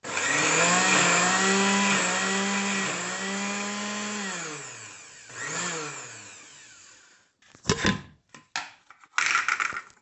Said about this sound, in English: So I just happen to have this mixture of celery, onions, and parsley, and then I've got some puree, and then I've got a serrano, some garlic, and I'm going to put it all in the blender with a little bit of tomato as well, and the cilantro.